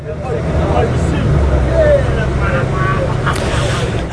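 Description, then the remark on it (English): Riding inside a moving bus: a steady, loud low engine rumble and road noise fill the space, with faint indistinct voices murmuring underneath. “One, there is no bus ride. There was going to be. Exactly a week ago, I started recording this episode, and it sounded like this.”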